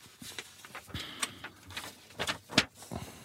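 Paper rustling and crinkling in a series of irregular, crisp bursts, moderately loud, with a sharper crackle near the end and no voices over it.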